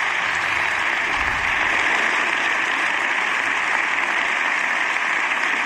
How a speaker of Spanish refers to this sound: Largo aplauso de la bancada del Partido Popular a esta última intervención de Alberto Núñez Feijóo, que se vuelve a poner en pie para responder a los aplausos de su grupo.